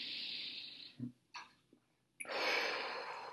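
A deep, audible breath taken out loud with eyes closed, one of three deep breaths: a long airy rush of air, a short quiet pause with a faint sniff, then another long, loud, breathy exhale. No one speaks.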